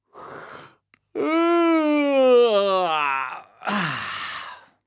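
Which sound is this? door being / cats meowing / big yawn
big yawn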